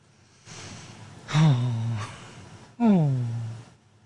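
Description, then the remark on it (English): A breathy intake followed by two sharp voiced gasps, each starting high and sliding downward in pitch, fairly loud, with no speech around them. “And that was what that gasp was.”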